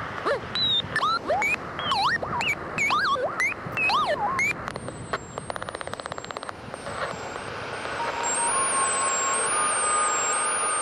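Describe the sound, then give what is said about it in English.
Quick chirping, swooping whistles fill the first few seconds, then give way to a steady, loud whooshing roar of a hairdryer blowing to simulate high winds, with a faint high whine running through it. “Domestic Weather Experiment 1. High winds and hairdryer.”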